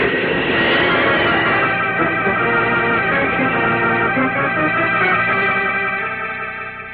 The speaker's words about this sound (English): Dr. Bloomfield and I heard a great rush of wind. Then we saw a sort of flash and blur as Superman leaped from the earth and streaked away into the sky.